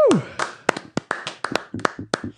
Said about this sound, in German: Dafür gibt es erstmal einen kleinen Applaus, würde ich sagen.